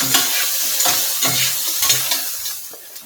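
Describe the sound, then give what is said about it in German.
Paella frying in olive oil in a pan with a steady, bright hiss while a utensil stirs and scrapes through it in irregular strokes, crackling continuously for a few seconds without voices. “Jetzt haben wir hier ja schon mal die ersten Schritte einer echten authentischen Paella erlebt.”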